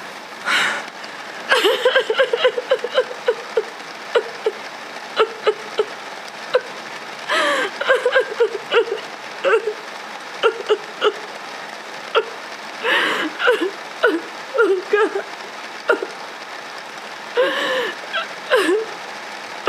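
Heavy rain pours down in a steady, dense hiss that never lets up, while short bursts of voices and breathy vocal sounds break in over it now and then.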